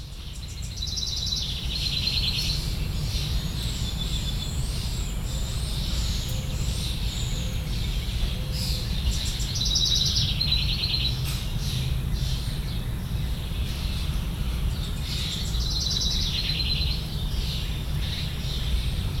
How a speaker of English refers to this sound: You've been listening to Backyard Birdsong, May 2020, Bloomington, Indiana.